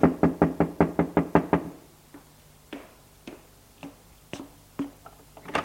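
A rapid burst of about eight firm knocks on a door, loud, followed by a few slower, softer scattered knocks with quiet pauses between them.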